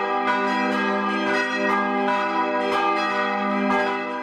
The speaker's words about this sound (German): Jeden Sonntag sind die Glocken von hier oben in der ganzen Stadt zu hören.